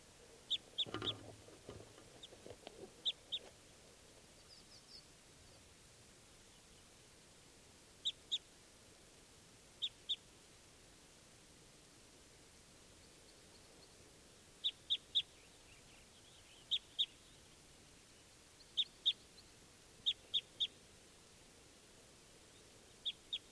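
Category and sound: bird, wild bird calls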